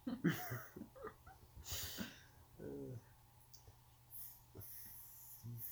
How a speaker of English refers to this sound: is sure breathing really loudly.